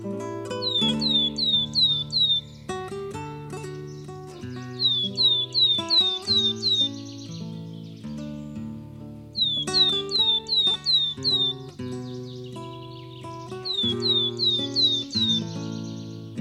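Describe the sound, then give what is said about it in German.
Willow tit song: short series of about five clear, descending whistled notes, repeated in regular bursts over steady background music, fairly loud and upfront, no talking. “Das war die Weidenmeise.”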